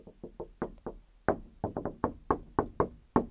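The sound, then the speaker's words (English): A rapid series of sharp knocks on a wooden surface, more than a dozen in an uneven rhythm with brief pauses, fairly loud with no voices. “Just knocking on wood there. Just knocking on the wood.”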